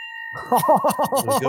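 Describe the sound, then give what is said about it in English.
A bell rings with a steady, sustained tone, then a voice or voices start singing over it in short rhythmic bursts while the bell's ringing lingers underneath. “Get the bell ready.”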